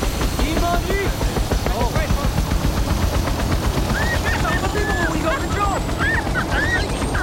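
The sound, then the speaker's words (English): A helicopter's rotor thumps in a loud, rapid, steady chop as it lifts off, with indistinct voices calling out over the constant roar. “He grabs his mobile as the helicopter lifts off.”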